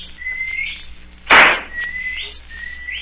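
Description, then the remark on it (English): A high whistled signal: several drawn-out, rising whistle notes repeated in sequence, interrupted midway by a brief loud, noisy burst, with no talking. “That's the last signal.”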